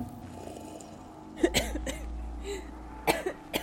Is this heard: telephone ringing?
no